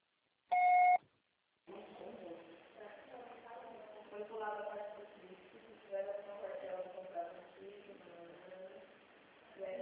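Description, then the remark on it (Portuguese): A single short, steady electronic beep sounds, the voicemail signal after which the message is recorded and the call is charged, then after a brief pause a voice begins talking. “O processo será tarifado após o sinal.”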